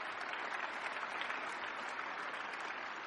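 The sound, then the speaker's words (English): A crowd of people claps steadily, a dense, even wash of applause that holds at a constant level for a few seconds with no voices over it. “Give a round of applause if it affected you.”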